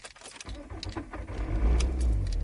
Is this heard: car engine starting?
yes